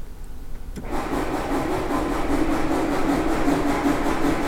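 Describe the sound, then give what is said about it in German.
A steady, chugging scrape starts abruptly after a brief quiet moment: an organ's railway sound effect, a whisk-like part running over a grater-like studded metal board, imitating a train's rhythmic rumble, loud with no one talking. “Da ist ein Brett, das ein bisschen wie eine Reibe aussieht, also ein Metallteil mit Noppen. Und da fährt etwas drüber, was wie ein Schneebesen aussieht.”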